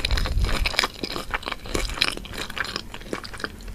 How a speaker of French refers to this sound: Je pense que je donne quand même la palme aux bruits de bouche, notamment les bruits de mastication.